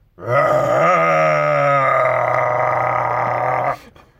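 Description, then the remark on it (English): A man's voice imitates a hippo's throaty growl: one loud, sustained, gravelly groan lasting about three and a half seconds, rising slightly in pitch early on before holding steady and cutting off abruptly. “Or maybe just a roar, like a hippo's, like, throaty growl.”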